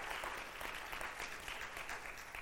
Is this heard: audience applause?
yes